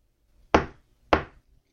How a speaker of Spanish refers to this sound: esperando a Caperucita Roja, quien un rato después llegó a golpear la puerta